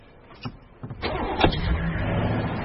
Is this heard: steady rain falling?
no